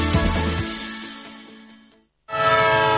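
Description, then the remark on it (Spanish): A loud, sustained horn of a departing train blares and slowly fades as it draws away, then after a brief silence a second strong horn blast sounds, with a low rumble under the start. “Un tren que se va.”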